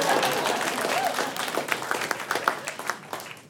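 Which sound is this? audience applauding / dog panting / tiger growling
audience applauding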